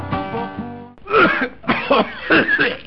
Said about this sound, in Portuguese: Interrompemos esta tosse para um comunicado importante sobre a tuberculose.